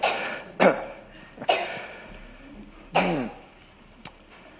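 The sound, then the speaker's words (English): Several separate coughs break out among a gathered group, a few seconds apart, some sharp and short, others rougher with a trailing rasp, from different people. Nobody speaks. “Oh, we're all coughing.”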